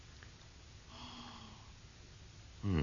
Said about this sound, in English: Well, in the case of Laphroaig, first you take a sniff. And that's because it should be as smoky as you can get.